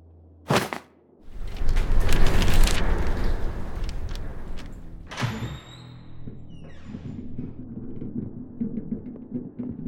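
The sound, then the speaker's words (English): A door clunks and swings open with a loud rushing scrape, followed by a sharp squeaky creak and then a steady low hum in the room. “That, you know, you didn't lock the door.”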